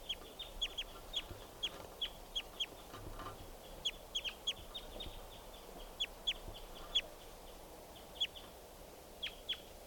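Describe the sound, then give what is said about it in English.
A wild bird calls in a steady run of short, sharp, high-pitched chirps, repeating every fraction of a second with uneven spacing, clear over a soft background hiss. “pointed now at the wild bird.”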